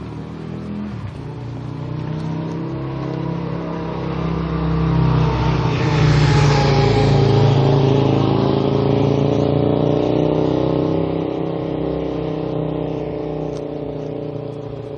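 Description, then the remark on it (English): A motorcycle engine revs up steadily, its throaty drone climbing to a loud peak around the middle before easing back to a rumbling idle. It runs continuously, with no voices. “Just want to ride on my motorcycle.”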